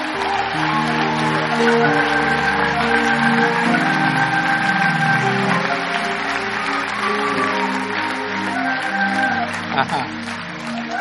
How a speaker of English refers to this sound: Still people. Look at people. They're still coming. Come on, give them a hand clap.